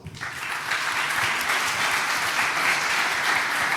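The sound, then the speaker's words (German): A crowd applauds steadily to thank the student council (Stura) of TU Dresden, a dense wash of clapping that rises quickly after a brief start and holds at a fairly loud, even level throughout, with no voices standing out. “Auch für die bitte einen Applaus.”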